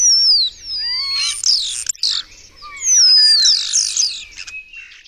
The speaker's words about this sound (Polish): Ale spośród gatunków, które u nas występują, to takim gatunkiem, chyba najlepszą papugą, to jest szpak.